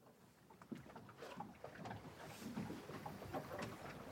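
A small boat moves through water with steady sloshing and lapping, plus occasional knocks and creaks of the hull, continuous, with light wind in the background and no one talking.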